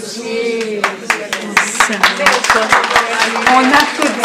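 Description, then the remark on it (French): An audience applauds God, clapping along in loose, uneven bursts, sharp hand claps cutting through a steady wash of raised voices that continues underneath throughout. “So we are applauding God and only God.”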